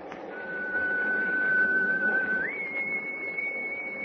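A steady, shrill whistle blows in fog, holding one long note, then jumping to a higher pitch partway through and continuing to sound, all over a constant low rushing background noise.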